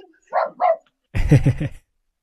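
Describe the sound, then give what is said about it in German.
Two short barks ring out, then after a brief pause a burst of several rapid, louder barks from dogs reacting to someone at the door, with no talking. “Wer hat sich da jetzt gerade aufgeregt? Entschuldigung, das waren gerade meine Hunde. Hier steht jemand an der Tür.”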